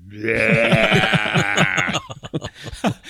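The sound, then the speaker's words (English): A voice imitates a lamb's bleat, a loud, wavering nasal cry held for about two seconds, followed by a brief burst of choppy, breathy vocal sounds. “What if the lights went into the lamb and Scotty turns to the lamb and says, what's that you're saying, lammy?”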